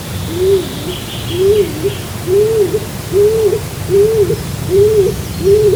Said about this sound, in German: Und dann kann es sein, dass in einem solchen dunklen, dunklen Wald eine dunkle, dunkle Stimme ertönt. Das ist der Balzruf der Hohltaube.